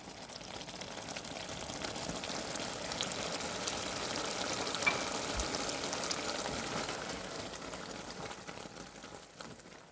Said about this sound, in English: We just poured the bourbon into the hot caramel sauce and watched it violently foam up